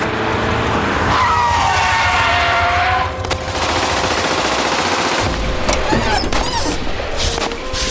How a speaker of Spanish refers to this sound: Este atentado se produjo cuando dos perpetradores desde un auto lanzaron bombas caseras